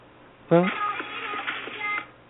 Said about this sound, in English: Well, cell phone ringing there, all right.